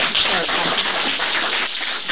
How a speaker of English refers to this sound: Well, let's give the speakers a round of applause.